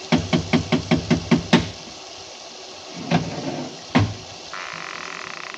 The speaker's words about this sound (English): I lifted the bronze idol and rapped on the door with it, and the voices stopped.